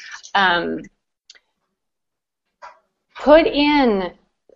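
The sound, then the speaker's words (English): A dog needing attention lets out two drawn-out, whiny barks while being petted, separated by a few seconds of near silence with a couple of faint clicks; the second bark is louder and longer. “the dog is needing attention.”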